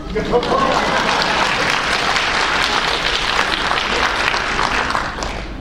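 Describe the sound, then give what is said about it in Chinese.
An audience breaks into dense, steady applause, many hands clapping together in a continuous wash of sound that holds strong for about five seconds before easing off at the end. “一个能够听你的配偶对你的真诚的劝诫的人是有福的，你要多听，多赶快拍手。”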